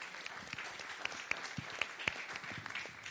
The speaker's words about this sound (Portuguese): Palmas, por favor.